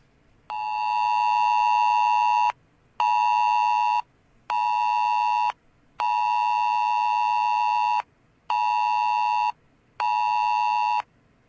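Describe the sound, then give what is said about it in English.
A phone's emergency alert tone, generated on the phone by a broadcast signal and held up to a microphone, blares loudly in six harsh, buzzing pulses, a long one followed by two short ones and then the pattern repeating, with brief silences between and no talking. “we have the actual ringtone or whatever it's called that we'll play”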